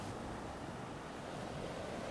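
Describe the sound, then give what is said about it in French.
Steady surf washing onto a beach, a broad continuous roar with wind blowing across it, fairly loud and constant with no voices present. “J'entends l'eau, j'entends le vent, j'entends, je vois, je sens l'odeur du sel et je vois le ciel qui est bleu.”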